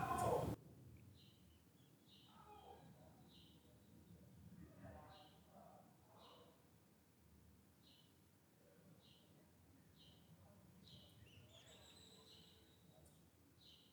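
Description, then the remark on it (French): Faint birds chirp outdoors in a steady series of short, high calls spaced about a second apart, set against a soft low rumble and a few muffled sounds. “Pas besoin de chasser les oiseaux ou les voisins, ou en prendre l'environnement sonore tel que nous le trouvons.”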